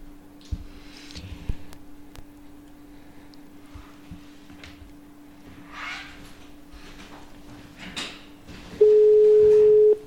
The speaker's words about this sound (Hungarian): Csöng a telefon.